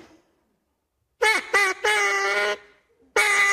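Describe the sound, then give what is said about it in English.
A hand-blown duck call sounds four loud, raspy quacks: two short blasts, a longer drawn-out honk, then after a pause a final blast. No one speaks. “Let me hear your duck call one more time okay.”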